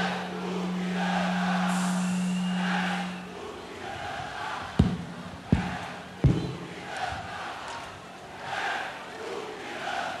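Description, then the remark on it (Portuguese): A large carnival bloco crowd in Salvador shouts and chants together in a loud, sustained roar, with a steady low hum early on and three sharp bangs punctuating the middle. “Agora eu quero ouvir o grito assim, ó.”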